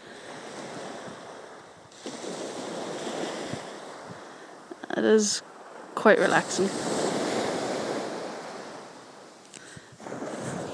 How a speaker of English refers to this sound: Okay, I'm up at Portrush here, and I thought I'd do a wee audio, but I'll just let you guys hear what the waves sound like. It's really quite windy, and you can listen to the waves just lapping up against the sand.